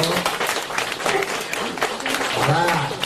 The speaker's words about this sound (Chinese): 鼓掌啊